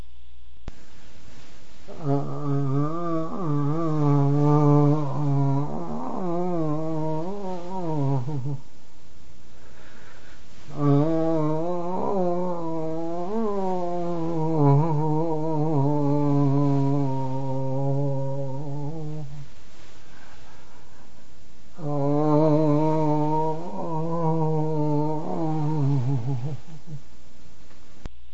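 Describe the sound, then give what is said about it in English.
Three long, drawn-out human moans illustrating a sound of Reichian therapy, each sustained for several seconds with a wavering pitch and separated by short pauses. The voice is fairly loud, with no words and no other sounds. “For the rest, I have to rely on my own sounds to illustrate the sounds of Reichian. First, the moan.”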